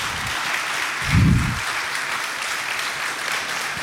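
An audience claps steadily, a dense wash of many hands with a brief low thump early on, the applause holding at an even level throughout with no voices.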